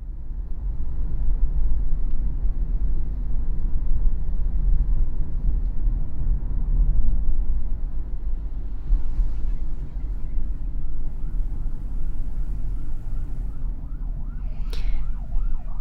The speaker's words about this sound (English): What's going on up there? Oh, fuck. No. A traffic jam? Really? Ugh.